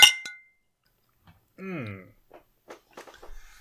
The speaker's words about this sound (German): Wollen wir mal anstoßen? Auf das, was es wert ist.